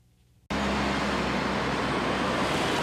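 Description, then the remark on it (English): After a brief near-silent moment, dense street traffic on Copacabana's Avenue of the Americas in Rio de Janeiro, Brazil, during the World Cup abruptly fills the scene: a steady, loud roar of passing cars and engines with a low hum, continuous, with no talking. “Copacabana's Avenue of the Americas.”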